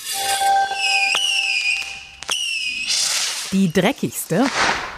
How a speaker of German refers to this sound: Die schönste Nacht des Jahres steht kurz bevor. Klar. Ich meine natürlich Silvester. Und was wäre diese Nacht ohne Böller und Raketen?